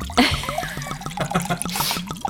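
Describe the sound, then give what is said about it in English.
A water sound effect played from a sound effect machine: water drips in a quick, steady patter, a rapid series of small plinks with a brief splashy rush of liquid near the end. No one speaks. “Okay, here's a water effect.”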